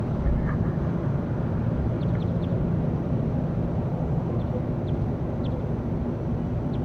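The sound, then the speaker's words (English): Faint, brief bird calls from bird 35 come through in scattered bursts, mostly buried under a loud, steady low rumble that fills the whole stretch. No one speaks. “This is all bird 35 in the background.”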